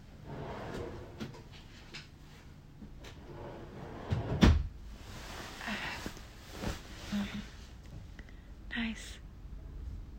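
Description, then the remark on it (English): A bedside drawer slides open and shuts, with one sharp wooden knock midway and quieter rattles and clicks around it, over faint whispery vocal sounds. “So, do you have any lube? Bedside drawer? Awesome. Just a second.”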